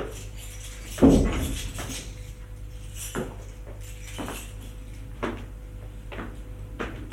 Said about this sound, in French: Il ouvre la porte de l'appartement.